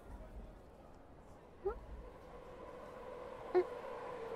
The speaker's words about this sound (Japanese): あ、もう電車来ちゃったの？思ったより早かったね。